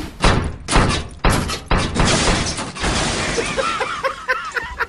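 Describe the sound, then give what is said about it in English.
A refrigerator, being lowered down the stairs during a house move, crashes down the flight: a run of loud, heavy thuds and bangs at uneven intervals, trailing into rattling clatter with a few high squeaks at the end. “I'll just lower this refrigerator down the stairs.”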